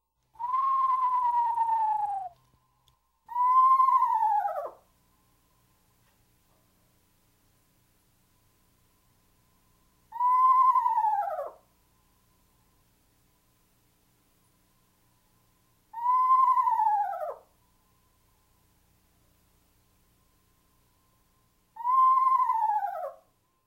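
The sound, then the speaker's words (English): An eastern screech owl gives five mournful, descending whinny calls, each a clear quavering whistle sliding downward, separated by several seconds of silence, with no voices. “Our third bird in this group is the eastern screech owl. No hoots here, but rather a mournful, descending whinny.”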